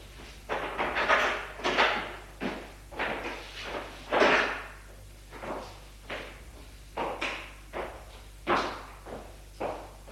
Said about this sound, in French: la porte de la chambre de Ferdinand s'est ouverte